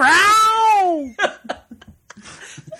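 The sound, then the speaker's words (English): A single loud, drawn-out cat meow sound effect rises slightly then slides down in pitch for about a second, followed by a few short, quieter bursts of sound. “I think that deserves a cat.”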